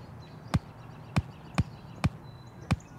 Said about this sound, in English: Pay attention and listen to how many times I clap.